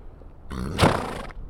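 A horse named Star lets out a short, loud whinny-like snort on a farm while having her chin whiskers clipped, a breathy, harmonic burst lasting under a second over low background noise.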